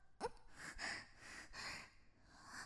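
Heavy, ragged breaths heave in and out, about four long panting gasps in quick succession with a sharp catch at the start, no words spoken.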